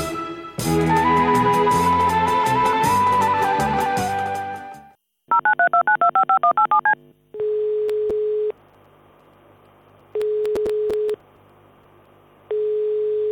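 A short melodic phone jingle gives way to a rapid run of touch-tone keypad beeps as a number is dialed, followed by steady, evenly spaced ringback tones. No one speaks.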